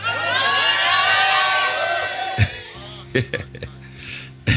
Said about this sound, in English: Rise to your feet. You have some shouting.